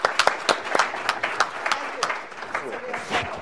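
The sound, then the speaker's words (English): A panel audience applauds Congressman Behra as he has to leave, with a steady patter of many overlapping claps, crisp and moderately loud, holding fairly even for a few seconds with a faint murmur of voices beneath. “Congressman Behra has to leave, and for a greater cause, we will just give him an applause and say thank you so much for coming.”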